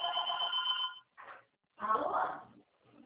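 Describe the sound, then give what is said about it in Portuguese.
A telephone at a workplace rings with a steady, high-pitched electronic trill for about a second, followed by bursts of talking as it is answered. “Só um minutinho que eu vou atender o telefone aqui no meu trabalho, é só um minuto.”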